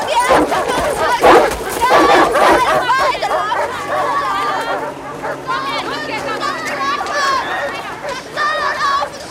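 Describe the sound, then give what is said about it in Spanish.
Guards' dogs bark as women are chased running to a train, amid overlapping shouts and hurried running. The commotion is loud, sharpest in the first couple of seconds, then a steady din of agitated voices. “Llevan corriendo a las mujeres de la lista hasta el tren. Guardianes y perros las acosan.”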